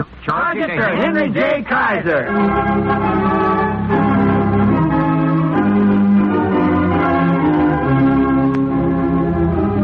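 Loud bells ring out in a dense, sustained clangor, their overlapping tones hanging in the air for several seconds, with a sweeping, wavering sound at the start.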